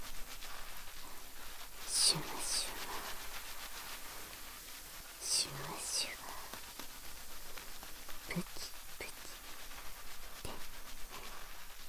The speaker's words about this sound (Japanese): このシュワシュワプチプチと頭皮で泡がはじける不思議な感覚が気持ちいいとよく言われます。頭皮ケアはもちろんですが、音やシュワシュワ感を楽しめることもポイントの一つですね。